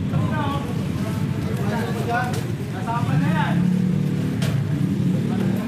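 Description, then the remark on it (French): A car engine rumbles low and steady throughout, loud, as the vehicle drives in a convoy to Cabrera Street in Pasay, with muffled voices talking over the drone. “La voiture s'arrête dans une rue passante d'un quartier résidentiel.”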